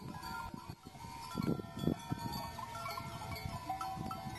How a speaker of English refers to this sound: In case you couldn't quite tell, those were bells attached to the throats of goats on a hillside in Delphi in central Greece.